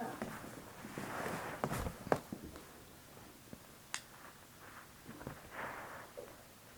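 Quick, uneven running footsteps of a small child: a scatter of light thumps and taps with a few sharper impacts, fairly quiet over a soft background hiss, with no voices.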